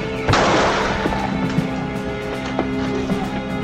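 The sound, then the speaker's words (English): A loud gunshot blast bursts out and rings off as a man is shot going out a door, followed by a few sharper cracks and thuds over a steady hum, with no speech. “I love how this guy gets shot going out the door, and he's like begging.”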